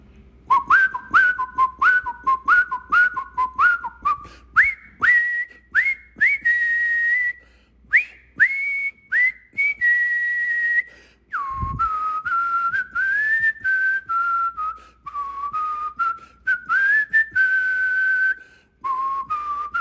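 A person whistles a lively melody loudly and up close, with quick repeated phrases rising and falling in pitch, sustained for about twenty seconds without any talking.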